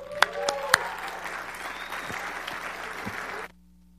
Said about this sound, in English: Everybody, if you could stand and give them an applause.